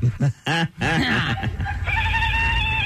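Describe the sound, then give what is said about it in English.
A person who bit into a Carolina Reaper pepper lets out loud, wavering wails that sound just like a goat's bleat, several short cries followed by a longer drawn-out one, strained. “Is that a goat? No, that's a human.”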